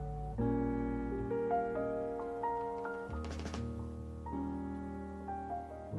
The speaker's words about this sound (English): Now this man works the trimmer. It cuts the paper to just the right size.